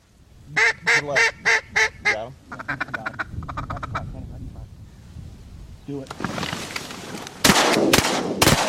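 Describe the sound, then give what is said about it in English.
A duck call blows five loud, nasal quacks in a steady rhythm, then softer rapid chatter, followed by a few seconds of quiet and several sharp, booming shotgun blasts, during a duck hunt in southern Illinois. “Here's some sound from a duck hunt in southern Illinois. First you hear the duck call, then the duck kill.”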